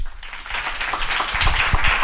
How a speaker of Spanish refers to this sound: y yo voy a pedir que ellos mismos se saluden. Un aplauso, por favor, chicos.